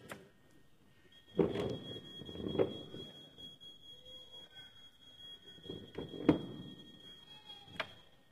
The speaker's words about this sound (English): That's the alarm that goes off, you see.